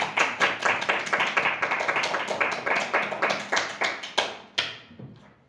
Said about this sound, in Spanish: Pues muchísimas gracias, un aplauso.